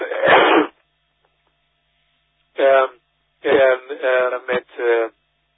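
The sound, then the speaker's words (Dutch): A single harsh, breathy cough, then after a short silence a cluster of four shorter, rougher voiced coughs in quick succession, all with a thin, radio-like tone. “Ik moet even kuchen hoor.”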